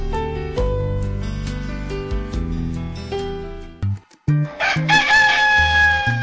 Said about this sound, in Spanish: Los gallos.